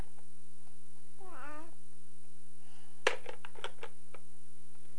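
A single drawn-out cat meow from upstairs, somewhat faint, rises and falls over about half a second, followed a moment later by a few sharp clicks and taps.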